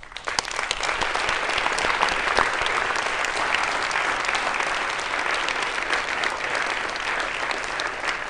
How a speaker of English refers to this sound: I think you should give the crown prince a round of applause.